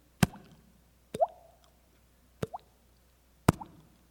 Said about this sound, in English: he was bleeding and his blood was just dripping out of his body onto that pole and just pooled up, drip, drip.